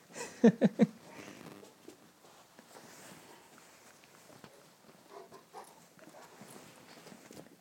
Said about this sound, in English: Well, Mister, you're having a little sniff. Those are my shoes, I think you'll find. What are you sniffing there?